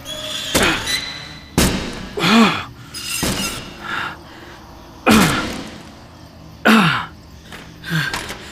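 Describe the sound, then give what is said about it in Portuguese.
A pickaxe slams repeatedly into a wooden door, about six heavy, irregular blows, each a sharp crack, with a man's strained grunts and gasps of effort between the strikes. “Agora que estou sozinho aqui, é hora de ver se essa porta resiste à minha picareta.”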